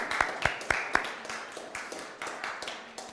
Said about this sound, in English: So I know we can't sing her happy birthday, but perhaps if we could give her a round of applause.